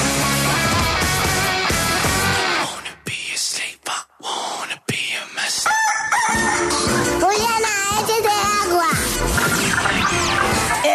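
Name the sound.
rooster crowing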